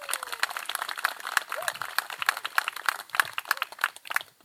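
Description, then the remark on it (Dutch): A crowd applauds the working group of the Dorpsboomgaard (village orchard) steadily for several seconds, a dense, irregular patter of many hands clapping at moderate volume, with no voices standing out above it. “Op zich denk ik wel een applaus waard voor de werkgroep.”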